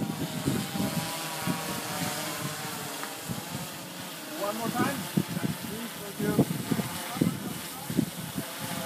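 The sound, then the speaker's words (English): A drone carrying a GoPro-type camera flies over the water at Kinsale, its propellers buzzing steadily over a broad hissing wash, holding a constant level throughout, with a voice briefly audible underneath. “You can't get all that close to a drone, but anyway, that's what it's like”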